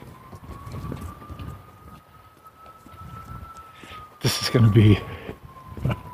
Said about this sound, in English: Your sirens.